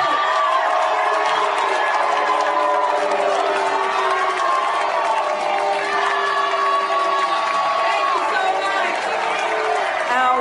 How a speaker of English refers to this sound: On Monday morning, protesters booed and heckled Wasserman Schultz at a Florida delegation breakfast.